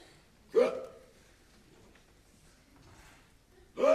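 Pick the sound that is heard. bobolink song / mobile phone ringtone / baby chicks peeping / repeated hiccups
repeated hiccups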